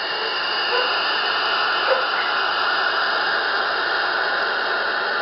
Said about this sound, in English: But owls actually do make a hissing sound like that was described that the creature made. Have a listen to this.